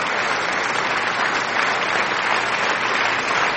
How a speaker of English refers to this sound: So yeah, did I already play the applause?